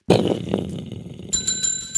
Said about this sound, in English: Why does it have a bell? What's the sound of thunder? Why does the thunder have a bell?